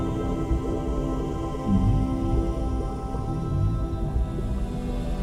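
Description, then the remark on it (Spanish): Low, drawn-out whale calls drift through a deep, steady underwater rumble, sounding distant and muffled, with no voices present. “En la distancia, percibes la presencia majestuosa de una ballena y la escuchas.”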